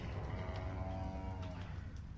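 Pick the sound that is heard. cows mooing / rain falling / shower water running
cows mooing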